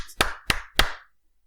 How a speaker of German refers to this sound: Gut, dann klatschen wir mal.